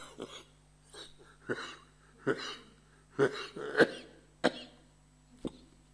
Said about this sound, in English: I'm sorry, I can't control the cough. When it comes, it comes.